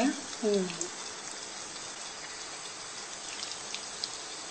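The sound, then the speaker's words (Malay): A steady sizzle of food frying in a pan until it turns golden yellow hisses throughout, with a brief voice murmuring at the very start before the crackling carries on alone. “Ya, nak goreng sampai dia kuning.”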